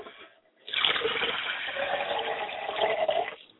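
Liquid is poured out as a libation to the mother spirit Yamanja in a steady, splashing stream lasting about three seconds, fairly loud, starting and stopping abruptly with no voices over it.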